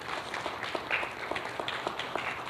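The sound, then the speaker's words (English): A church audience applauds to welcome two new members: a steady, dense wash of many hands clapping at a fairly soft, even level, with scattered sharper claps standing out and no voices over it. “But can we just give them a hand of applause?”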